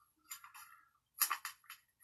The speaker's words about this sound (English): Next we have, let's see, the Bass Crasher Frog. There we go. Soft plastic. Let me dig one of those out here. Zip this thing open real quick.